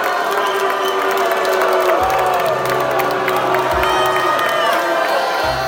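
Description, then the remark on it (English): A large crowd of at least 100 students and other people on the University of Florida campus in Gainesville yells and shouts nonstop, heckling and drowning out a speaker, many voices overlapping in a loud, dense roar that never lets up for the whole stretch. “At least 100 students and other people in the crowd heckled Spencer for an hour, drowning him out and yelling things like”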